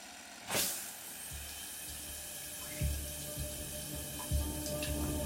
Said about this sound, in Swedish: Du stannar kvar i duschen längre än vad du behöver.